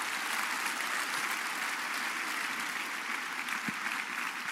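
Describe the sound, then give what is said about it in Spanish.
A church audience applauds the Lord loudly in honour of a woman pastor, a dense wash of many hands clapping at an even, sustained loudness with no voices standing out above it. “Un aplauso al Señor por ella. ¡Aplausos fuertes!”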